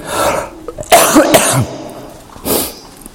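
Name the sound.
coughing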